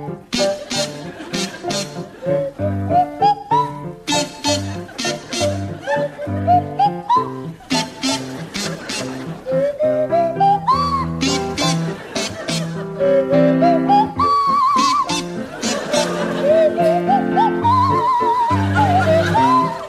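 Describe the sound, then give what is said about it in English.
A buzzy kazoo played by Jeremy Hardy and a sliding swanee whistle played by Tim Brooke-Taylor perform The Blue Danube waltz together, the whistle swooping up between notes over a steady oom-pah rhythm, fairly loud. “So, Tim and Jeremy, you can start, and I'd like you to provide us with a rendition of The Blue Danube to feature Jeremy Hardy on the kazoo and Tim Brooke Taylor on the Swanee whistle.”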